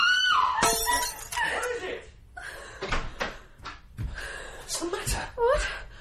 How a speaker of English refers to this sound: Oh, the glass. I dropped it. Never mind the glass.